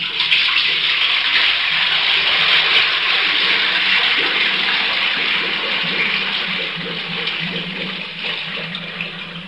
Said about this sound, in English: These sounds are the last a condemned man hears as he enters the execution chamber. First, the slam of a steel door. Then the gurgling of acid and water. Finally, the lowering of the deadly cyanide pellets.